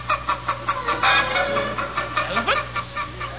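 Chickens cluck in a busy, overlapping chatter, short repeated calls bunched together from several birds, steady throughout with no voices.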